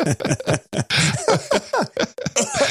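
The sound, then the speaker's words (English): A person coughs repeatedly in a fairly loud fit of short, rough bursts that come in quick succession with brief gaps, and no speech in between. “Thanks to make me cough.”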